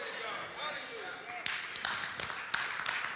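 Scattered, half-hearted clapping from a church audience during an Easter Sunday sermon, a few uneven claps starting up over a murmur of crowd noise and then fading without building into full applause.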